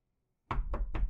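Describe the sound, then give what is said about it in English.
Three loud, heavy knocks on an apartment door in quick, even succession, forceful, following a moment of silence. No one speaks. “So please quit wasting my time and open this damn door!”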